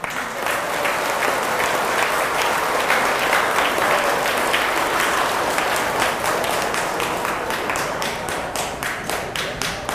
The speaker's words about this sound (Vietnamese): Nếu quý vị thấy rằng là việc thực tập đó là rất cần thiết và có thể làm được trong tầm tay, thì hãy dâng cao tràng vỗ tay và nở nụ cười thật là to.